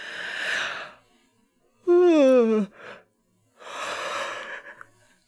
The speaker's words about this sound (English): Something about starting talking always makes me like yawn.